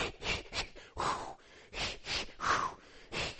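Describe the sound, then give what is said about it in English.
A person imitates labor breathing exercises, forcing out a quick, rhythmic series of sharp, breathy puffs and huffs, with no talking. “And so then you have to start, and you had to recall all the breathing exercise things. You know, you got to go.”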